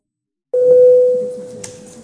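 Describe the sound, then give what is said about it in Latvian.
A parliamentary voting bell signal, called for by the chair before a vote on a bill: one steady, fairly loud electronic tone that starts abruptly after a brief silence and holds for about a second and a half, slowly fading, with no voices. “Paldies, lūdzu zvanu.”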